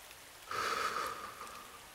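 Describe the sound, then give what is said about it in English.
Steady rain falls in a soft, even hiss that swells in abruptly after a brief quiet moment, then continues at a moderate level with no voices. “My skin tingles, as if I can feel each and every raindrop.”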